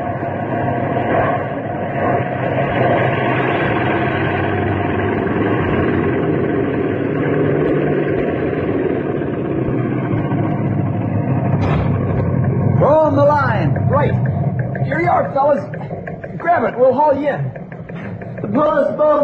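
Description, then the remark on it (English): A seaplane engine drones loudly and steadily as the plane flies low along a lake shoreline, a continuous rumbling roar, with voices talking over the engine noise in the last several seconds. “We'll circle the shoreline of each lake. Flying low.”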